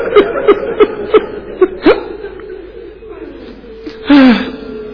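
People weep aloud in mourning for Imam Hussein in a series of short, rhythmic sobbing cries, followed after a brief lull by a louder, drawn-out wail that wavers and falls.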